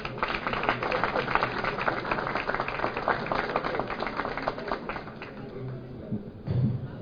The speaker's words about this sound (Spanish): Recibimos con un fuerte aplauso al escultor Rodrigo de la Sierra.